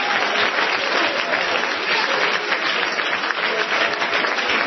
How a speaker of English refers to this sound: Clap your hands and praise Him again for me.